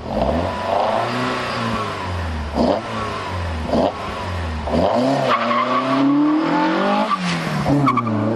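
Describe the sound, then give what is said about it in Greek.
A Peugeot 205 rally car engine revs hard and loud, its pitch climbing and dropping through repeated gear shifts, with bursts of tire and gravel noise between the runs. No one speaks. “Λοιπόν, παίζω 205 θέλω.”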